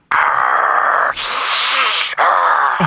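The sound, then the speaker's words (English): A person imitates a growling bear: a loud, rough, sustained vocal growl in three back-to-back surges, the middle stretch harsher and more rasping than the others. “I can hear him down there growling.”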